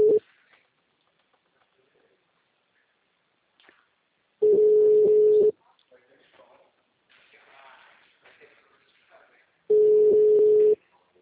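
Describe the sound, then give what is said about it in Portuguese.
A phone line rings out with no answer: steady, low-pitched one-second ringback tones repeat about every five seconds, with faint voices murmuring in the gaps between rings. “Nossa, não atende a merda do telefone.”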